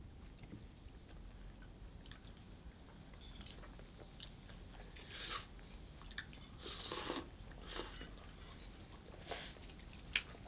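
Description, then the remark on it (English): Wet slurping of tea from a mug comes in several short noisy bursts spread over a few seconds, between quieter moments and over a steady low background rumble. No one speaks. “Must be house slurping noises.”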